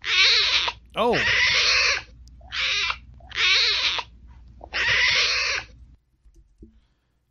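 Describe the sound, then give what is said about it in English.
Bengal tiger cubs at their den in Chitwan Park call in five loud, raspy mewing bursts, each about a second long with short gaps. A person briefly exclaims near the start. “Yes, that's the sound of baby tigers.”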